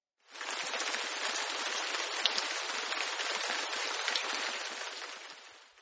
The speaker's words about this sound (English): She had interrupted a perfectly nice drink, made him walk home through the pelting rain